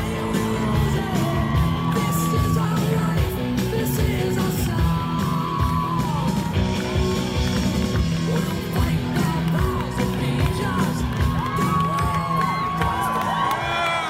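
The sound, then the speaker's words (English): A large crowd cheers and yells continuously, a dense roar of many voices with scattered whoops and shouts rising above it, loud and sustained throughout. “This is really beautiful, fantastic. What a crowd. What a crowd.”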